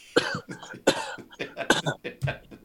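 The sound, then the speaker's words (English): A man coughs repeatedly, a rough run of harsh, throaty bursts in quick succession with short gaps between them. “Yeah, he was coughing a lot.”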